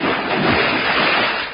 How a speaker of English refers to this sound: I got the maker's guarantee on this record. So listen. This water is genuine, and any copy of it will be confiscated. Remember, only genuine water makes this sound.